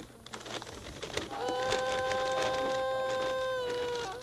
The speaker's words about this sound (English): What are you working on here? I'm just playing the bagpipe. Bagpipe? Yeah. That's a little one, isn't it? Sure is. It has a weird sound, too.